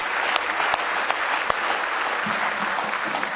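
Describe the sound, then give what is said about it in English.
A church audience breaks into steady applause as a hand clap of praise during a morning service, many hands clapping in a dense, continuous wash with a few sharper individual claps standing out, and a faint murmur of voices underneath. “All the unspoken prayer requests, if you have a need today, let's go ahead and give him one more good hand clap of praise this morning.”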